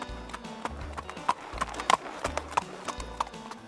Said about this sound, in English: The donkey gets free. It runs away.